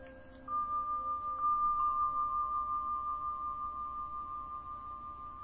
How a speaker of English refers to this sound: We're just quieting down and settling in, doing nothing but listening to the Tibetan bells.